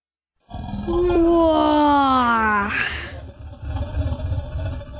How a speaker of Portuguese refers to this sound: De repente, a enorme coisa escamosa se esticou e deu um terrível bocejo.